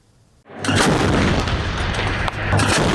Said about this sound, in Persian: توپخانه ارتش اسرائیل که مواضعی در جنوب لبنان را هدف قرار می‌دهد، در واکنش به پرتاب یک راکت از جنوب لبنان به شمال اسرائیل در بامداد دوشنبه، حادثه‌ای که هیچ گروهی مسئولیت آن را بر عهده نگرفته.